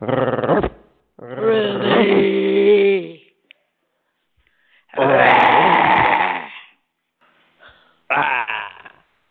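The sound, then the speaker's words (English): A person imitates a cow mooing: four loud, drawn-out, low moaning calls, the longer ones wavering in pitch, separated by short silences, with no talking in between. “You sound like a cow. You go moo.”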